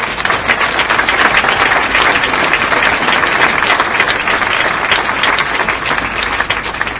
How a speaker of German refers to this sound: Der Mann ist klatschnass. Könnt ihr trotzdem applaudieren.